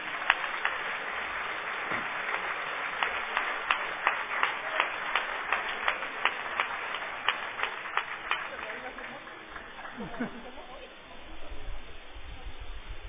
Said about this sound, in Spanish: un aplauso para el CIS